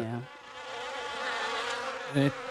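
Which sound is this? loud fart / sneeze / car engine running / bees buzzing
bees buzzing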